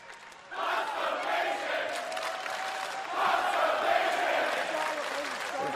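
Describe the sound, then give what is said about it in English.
A large crowd in Washington shouts and roars together, shouting "constipation", a dense wall of voices that swells louder midway and keeps up a steady, excited din with no single voice standing out. “When that crowd got into it so much, people are in and they started shouting constipation.”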